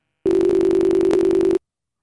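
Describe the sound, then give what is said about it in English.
A steady, fairly loud electronic phone tone holds one low-mid pitch for just over a second, with tiny hiccups, then cuts off abruptly into silence: a phone call's disconnect tone after the other person hung up. “Oh, he hung up.”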